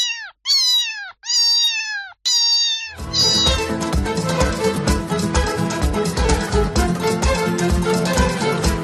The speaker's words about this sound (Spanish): Es nuestro gato.